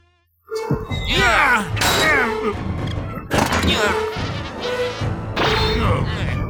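A fly buzzes loudly, its drone rising and falling in pitch as it darts around, nearly continuous for several seconds after a brief moment of silence.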